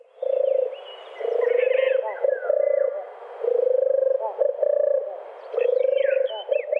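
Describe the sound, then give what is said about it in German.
A dove's low, soft cooing repeats in about four drawn-out phrases with short pauses between, while higher chirps and twitters from other birds sound over and between them. “Also der Name dieser Art leitet sich von diesem gurrenden Gesang ab. Und das ist eine ja, wunderschöne Taubenart.”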